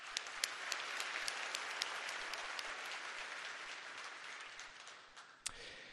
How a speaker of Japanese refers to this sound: Let's have a big round of applause for all of the winners。 受賞級のパートナーの皆様、本当におめでとうございました。そしてありがとうございました。皆様、改めまして盛大なる拍手をお願いいたします。